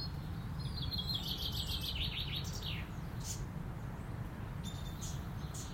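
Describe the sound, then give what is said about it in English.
Quick, high chirping birdsong of birds courting at the beginning of the mating season, in bursts of rapid trills and tweets over a steady low rumble of background noise, with a few sharper calls near the end. “Nothing but birds courting other birds.”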